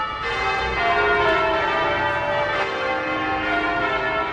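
The bells of St. Mary Le Bow Church in East London ring out loudly and continuously, their overlapping tones blending into a rich, resonant peal that fills the whole stretch without pause or any voices.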